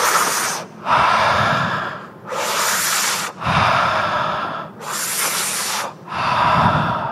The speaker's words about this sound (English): I want you to breathe in and out really deeply 5 times.